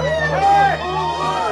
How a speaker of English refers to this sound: How the crowd cheered.